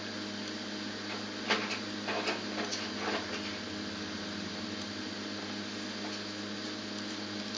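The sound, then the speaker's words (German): Tesafilm sticky tape is pulled and stuck down in a few short, crackly ripping bursts while making paper lanterns, over a steady background hum, then only the hum continues. Nobody speaks. “Jetzt haben wir ja alles zugeklebt.”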